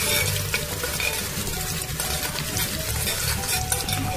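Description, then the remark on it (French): Meat fries in two ladles of frying oil until golden, a steady sizzle: a dense, continuous crackle, fairly loud, with occasional stirring scrapes and no voices. “Nous allons ajouter 2 louches d'huile de friture. Nous allons frire la viande pour qu'elle ait une couleur dorée.”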